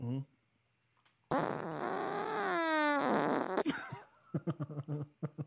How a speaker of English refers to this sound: Here's the third fart. Ready?